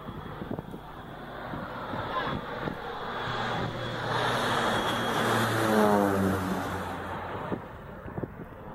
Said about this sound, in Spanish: nos están soplando la nuca con una avioneta. Encima, con este viento que hay, ¿no? A ver, ahí está pegando la vuelta. Ahí está pegando la vuelta otra vez, mira.